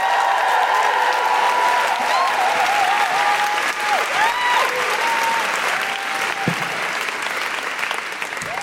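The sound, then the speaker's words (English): Loud, sustained applause from a large audience welcoming the last act of the night fills the whole stretch, with whoops and high cheers rising over the steady clapping. “please join me in giving a huge, huge, huge welcome and round of applause for our last act of the night, who's going to blow the roof off this place.”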